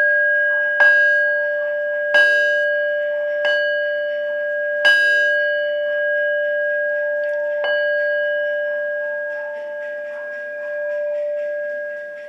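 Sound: bell ringing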